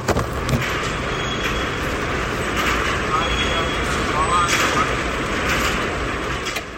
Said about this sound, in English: likes the sound of her workplace, which is an automotive assembly plant.